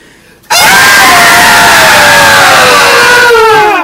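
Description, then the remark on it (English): Several voices imitating women break into a sudden, loud, sustained high-pitched scream together, holding it for a few seconds with slightly falling pitch before it fades out. “Alright, we have to scream like women now.”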